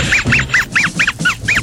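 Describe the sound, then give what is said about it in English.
A voice imitates a chicken clucking: about seven quick, nasal clucks in a steady rhythm, loud, with no talking. “Bet I can make you laugh. Chicken.”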